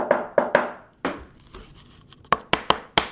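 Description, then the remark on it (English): Hand-carving a clear ice cube for cocktails: a quick run of three sharp, ringing chisel strikes, a stretch of softer scraping and chipping, then four more crisp, bright knocks. No one speaks. “But now bars are spending the money and training their staffs to make and hand-carve clear ice.”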